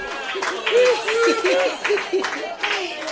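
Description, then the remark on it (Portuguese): A group applauds with steady, dense clapping while bursts of laughter and lively voices rise and fall over it, fairly loud throughout the few seconds. The applause and laughter accompany a flute tune leading performers from the stage back to their places. “Até que por fim, Zacarias começa a tocar uma flauta que lhes põe em marcha e os dirige para os seus lugares, acompanhado de aplausos e gargalhadas.”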